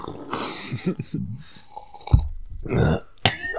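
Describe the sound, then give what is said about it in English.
Three men sip coffee in turn, with a string of wet, airy slurps, a low gulp and a short breathy exhale, fairly loud with no talking. “Wait, everybody take a sip just to prove that we got coffee for the audio version.”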